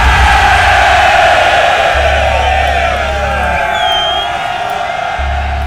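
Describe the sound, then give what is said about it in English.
A large crowd cheers and whoops continuously at a steady, loud level, with scattered shouts and a low rumble underneath, sounding muffled. “Is that still the crowd I hear?”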